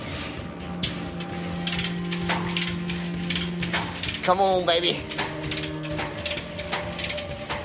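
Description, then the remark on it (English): A track pin being worked out of the track of the Elephant tank: a steady run of sharp metallic clicks and knocks, with a brief grinding squeal midway and a low mechanical hum, while a man mutters a few words. “A track pin is finally coming out.”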